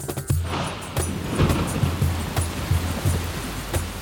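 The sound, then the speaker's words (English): Rain beginning to fall in a dense, steady hiss, with soft low thuds recurring every half second or so underneath. No voices. “The bow arrived just as it began to rain.”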